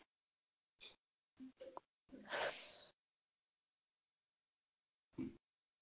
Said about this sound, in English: just for the moment, just take a breath, just as audible as you want, and just breathe out.